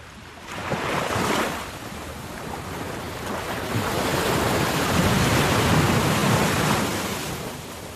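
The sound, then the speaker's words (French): Sea waves break on a shore of black pebbles at Rivière des Galets in southern Mauritius, a rushing, hissing surge that swells early on, then builds again into a longer, louder wash before easing. No voices, with some wind noise. “Situé au sud de Maurice, il est réputé pour ses pierres noires, polies par les vagues”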